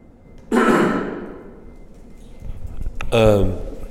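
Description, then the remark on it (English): A person coughs once, a sharp harsh burst that fades over about a second, followed by a brief throaty voiced sound shortly after. “So it'd be, excuse me, about to cough.”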